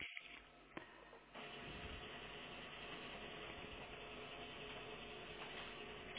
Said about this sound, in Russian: Я вот сейчас распечатаю, какой он есть. Посмотрю, как будет видно, хорошо или плохо.